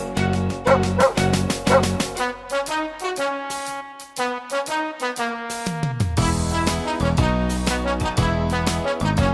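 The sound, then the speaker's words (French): Several dogs bark and yip in quick, rhythmic bursts, loud, with a steady musical backing running underneath; no one speaks. “Tous les toutous du monde se donnent la papate en faisant une ronde entre copains à quatre pattes.”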